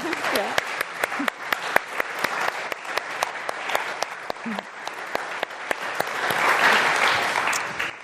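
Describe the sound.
A crowd applauds the pantomime performers steadily for about eight seconds, dense clapping with a few sharper individual claps standing out, swelling slightly louder near the end. Faint voices murmur underneath.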